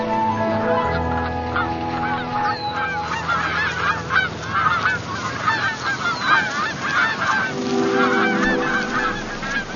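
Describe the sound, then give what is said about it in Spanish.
A large flock of geese landing by the thousands in autumn honks continuously, many overlapping calls forming a loud, dense chorus over a low steady drone, with no voices present. “Los gansos y otras anátidas aterrizan por miles en busca de abrigo, seguridad y comida.”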